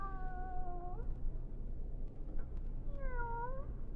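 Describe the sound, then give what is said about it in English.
A cat named Kitty meows twice, each call a drawn-out, wavering cry with a gap of quiet between them, against a low steady background hum. “Will you listen, Kitty?”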